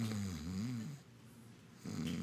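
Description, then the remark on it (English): A voice imitates loud snoring: a long, rumbling snore, a short quiet pause, then the start of another snore, with no speech. “My Savior snores.”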